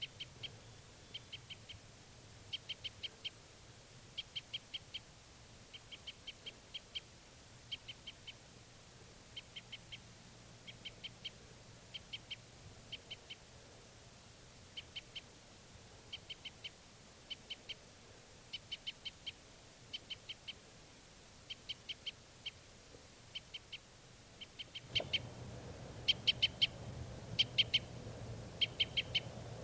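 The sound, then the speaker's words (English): Birds flying over toward a net call repeatedly in short, high-pitched chirping bursts that recur steadily throughout, over a low background hum that grows a little louder near the end. “Birds flying over toward the net again.”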